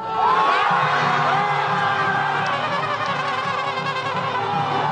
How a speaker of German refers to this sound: Das, was sich anhört wie der Jubel bei einem Fußballspiel, ist die Freude über den Moment, der das vorläufige Ende einer beispiellosen politischen Krise in Südkorea markiert.